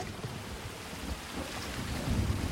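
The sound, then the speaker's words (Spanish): Heavy rain pours down outside a cabin in a steady, dense hiss that fills the whole scene, with a deep low rumble underneath swelling slightly louder toward the end. No voices are heard. “En el umbral de su cabaña y protegido con un paraguas de la fuerte lluvia, hay un hombre blanco.”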